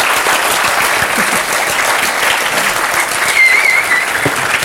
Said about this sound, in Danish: Jeg synes lige, I må lige give dem en hånd. Ja. De har sgu været gode, de to herre.